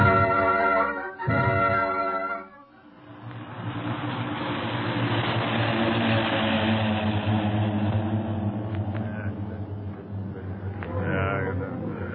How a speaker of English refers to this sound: Okay, but don't move. No one must move until those planes are out of sight. Boy, oh boy. I thought we was going ashore when that one plane nosed down toward us.